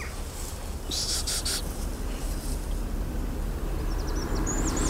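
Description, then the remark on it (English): High, thin goldcrest calls come through faintly: a quick cluster of short notes early on and a brief wispy phrase near the end, over a steady low rumble of wind or traffic. “There's a gold crest there.”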